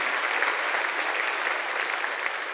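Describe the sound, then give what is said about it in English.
Steady applause from a large group, a dense continuous patter of many hands clapping at once with no voices standing out. “We'll give another round of applause today.”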